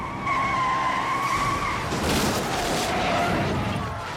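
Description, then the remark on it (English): A van fleeing police skids on a gravel road with a steady high-pitched squeal for about two seconds, then gives way to a loud, rough crunching and grinding as it slides and crashes into a flagpole. No one speaks. “The van slides on this gravel road and crashes into a flagpole.”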